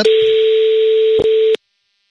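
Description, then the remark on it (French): A telephone line hums with a steady dial tone for about a second and a half, broken by a couple of sharp clicks as a number is dialed on Willy Sagnol's small telephone to call back a listener, then it cuts to silence. “qu'on va donc rappeler avec le petit téléphone de Willy. Hop, il va composer le numéro.”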